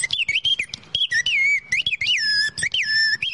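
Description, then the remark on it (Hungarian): A piston bird whistle imitating a songbird warbles in rapid, sliding trills, its shrill tone gliding up and down between bright peaks and lower dips in quick, chirpy bursts, the pitch changed by moving the piston and fluttering the tongue, with no talking over it. “Ez egy dugattyús madársíp.”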